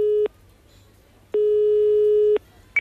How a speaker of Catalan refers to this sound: Em sembla que l'hauré de trucar per telèfon. Sí, noi. Passa'm el telèfon, Paco, perquè a veure si se m'hi posa.